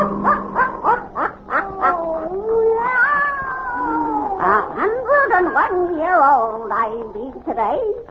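Satan, the wise black cat of old Nancy, the Witch of Salem, caterwauls loudly, with a run of short yowls giving way to long, wavering wails that bend up and down in pitch, with no other sounds around it.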